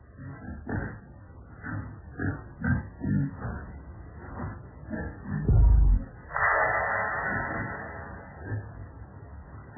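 Muffled pig grunts and oinks come in short repeated bursts, broken by a heavy low thump and a few seconds of rough, noisy rustling. No one speaks.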